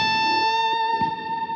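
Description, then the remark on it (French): A distorted electric guitar string bend at the climax of a solo rings out as one long, high, sustained note, loud and steady for over a second, with no voices over it. “Pour finir, sur le bend, le climax du solo.”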